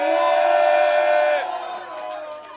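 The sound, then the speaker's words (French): A live crowd at Ristola roars with loud cheering and shouting for the band's arranger, holding steady, then dropping off sharply partway through and fading into a lower, scattered din of voices. “Un maximum de bordel pour Yo le chat, notre arrangeur.”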